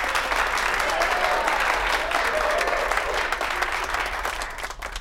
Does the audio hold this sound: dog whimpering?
no